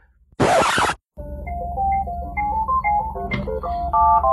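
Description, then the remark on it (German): A short burst of noise gives way to a telephone ringing with a melodic electronic ringtone, its bright stepping notes playing continuously over a low background hum. “Hier klingelt mein Telefon.”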